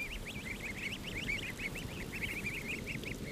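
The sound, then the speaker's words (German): A flock of several dozen greylag goose goslings, a few weeks old, peeping continuously, many high, rising-and-falling calls overlapping in quick succession over a low rumbling background, at the Auinger Hof of the University of Vienna's Konrad Lorenz Research Station in Grünau im Almtal, Upper Austria. “Alena und Johanna haben nämlich gleich mehrere Dutzend Gössel, also junge Graugänse, unter ihre Fittiche genommen”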